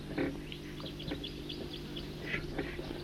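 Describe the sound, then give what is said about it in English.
Wild birds call in a little hollow along Cataract Creek, short high chirps and tweets popping up irregularly over a steady low hum and a constant wash of background noise. “I'm here along Cataract Creek still, and I'm in a cool little hollow, and the birds are all here.”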